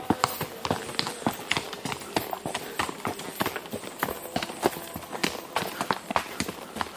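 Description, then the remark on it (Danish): Steady clip-clop of the hooves of a horse being ridden on a hard surface, a rapid, rhythmic series of sharp knocks at moderate loudness, continuing throughout with a faint outdoor background. “Forandring på hesteryg.”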